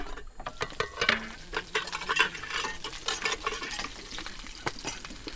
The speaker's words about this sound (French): Ensuite il coupe le poisson en quelques tranches et le poisson va être frit directement. Donc plus frais que ça, c'est pas possible. Voilà, directement à la casserole.